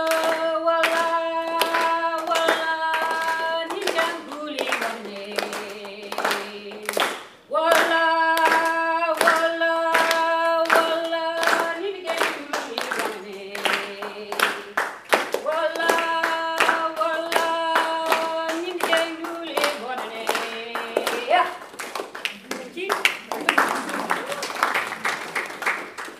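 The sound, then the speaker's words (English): A group claps hands in place of clap sticks, in a steady, even rhythm along to a song written to engage children in language, sharp crisp beats ringing out over a voice singing a sustained, melodic line. “So if we could just clap and look at what.”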